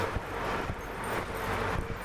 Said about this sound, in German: und da macht der Wind nämlich irgendwas zwischen 31 und 54 km/h. Ich nämlich windiglich. Ziemlich windiglich, aber hier trocken. Trocken und windiglich.